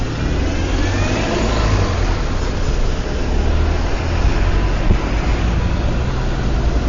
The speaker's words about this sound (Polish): Stoję pod komendą policji, ale na drugiej stronie pasa ruchu, czyli za mną jadą samochody, przede mną jadą samochody i idę.